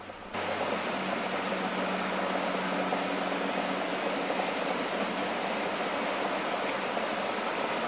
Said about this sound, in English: You're mainly hearing rain and traffic. Oh, there's thunder.